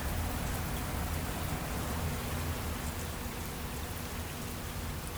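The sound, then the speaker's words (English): Heavy first rain in Normandy pours down in a steady, dense hiss that never lets up, with a faint low hum underneath and no voices. “Oh, here comes the rain now. Getting a little heavy.”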